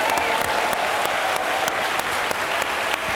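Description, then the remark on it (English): A crowd applauding steadily, dense overlapping claps forming a constant bright wash of sound with scattered sharper claps popping out, sustained at an even, fairly loud level throughout. “That was a great sound effects record, by the way. It really sounded realistic.”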